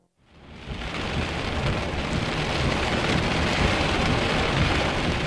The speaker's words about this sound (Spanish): Probablemente fue después de medianoche cuando comenzó la tormenta. La violenta tormenta que puso fin a todas las tormentas.